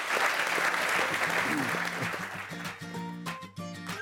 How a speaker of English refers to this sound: Let's give a round of applause for them for getting through the gauntlet.